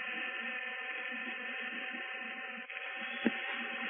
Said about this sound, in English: And now the machinery begins to hum. In a moment, the centrifuge should start whirling around in its giant circle.